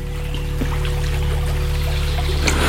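A steady trickle of brook water runs throughout, soft and continuous with small bubbling splashes over a low, constant hum, ending with a slightly brighter splash.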